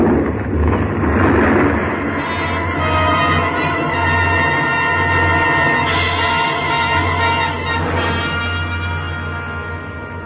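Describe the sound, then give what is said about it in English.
A heavy, continuous roar of tumbling snow and ice from an avalanche loosened by gunshots on a ridge above, sweeping down toward a valley; deep and loud throughout, with surges of crashing noise before easing slightly toward the end. “It passed me and swept on down toward the valley, the thunder of it dying in the distance.”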